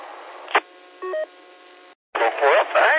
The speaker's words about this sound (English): I'm getting a phone call from KN4LBO